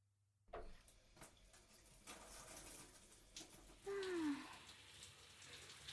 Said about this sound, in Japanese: シャワーあったかくて気持ちいいね。